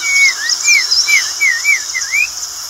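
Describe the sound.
Someone whistles an imitation of a blue-gray tanager (azulejo) song: a quick series of about six wavering, upslurred notes, fairly loud, with no talking.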